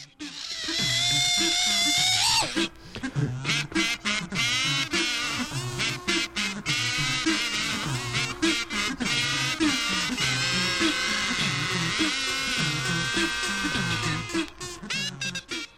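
An orchestra plays an orchestral cover of a disco song: sustained string lines soar over a bouncing, repetitive bass figure, with a steady danceable pulse, loud and continuous throughout, with no voices.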